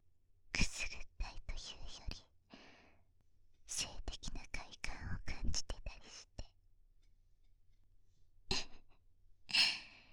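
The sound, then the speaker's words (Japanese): Soft breathy puffs blown into an ear in short bursts as a final touch to remove fine dust, airy and hissing, with whispered murmurs between them and a final gentle exhale after a pause. “私の吐息で細かいホコリを取り除いているのよ。”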